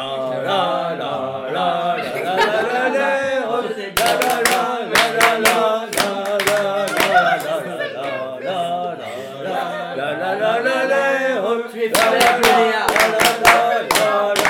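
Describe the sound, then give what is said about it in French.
A crowd at a meal sings the banc bourguignon, a Burgundy folk chant, punctuated by loud, sharp group handclaps that land in rhythmic bursts from about four seconds on, pausing briefly and then returning near the end. “Voilà, et ça, on appelle ça le banc bourguignon.”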